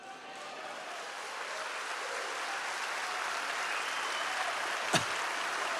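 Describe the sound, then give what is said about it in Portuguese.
An audience applauds during a sermon, affirming belief in Jesus: a dense, steady wash of clapping that swells slightly and holds for about six seconds, with one sharper pop near the end. No voices are heard. “Você aplaudiu, crê em Jesus, tem a salvação eterna.”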